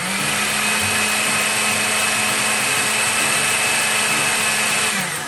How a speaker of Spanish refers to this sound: Puedes utilizar una licuadora de mano, una procesadora, lo que tú tengas en casa. Puedes dejar algunos trocitos si prefieres una sopa más rústica. Yo hoy utilizaré una licuadora.